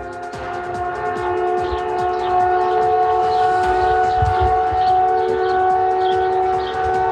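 Several fire brigade sirens blare together in a loud, steady, sustained tone, holding without a break throughout, with faint crowd or outdoor rumble beneath and no one speaking. The sirens mark one year since a tornado struck Puerto Varas.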